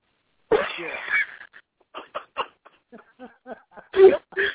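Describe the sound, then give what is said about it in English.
A sudden, loud sneeze bursts out near the start, followed by a string of short, breathy wheezes and sniffling sounds of varying strength. “I just sneezed chance on my nose.”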